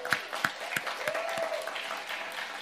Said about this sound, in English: Perfect, give her a round of applause.